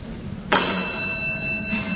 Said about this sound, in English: Bells ring.